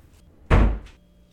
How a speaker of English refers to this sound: Sure. Have a good one, and please shut the door behind you. Thanks.